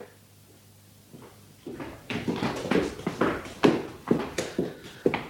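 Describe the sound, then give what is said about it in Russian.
After a quiet start, a housemaid unlocks and opens a door to let someone in: a run of fairly loud clunks and knocks from the lock and latch in a quick, uneven rhythm, with no voices. “Она отпирает дверь и впускает Алексея”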